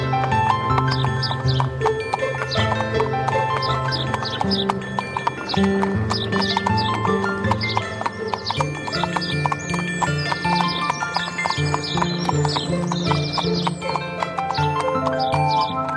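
A pair of brisk bay horses, whipped on by the coachman Deniska, pull a britzka, their hooves clip-clopping steadily in a brisk, continuous trotting rhythm at an even loudness throughout, with no voices.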